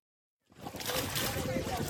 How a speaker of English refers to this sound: In a remote village in Akobo, one of South Sudan's most restive regions, small boats carrying families, including young children, glide towards the riverbank.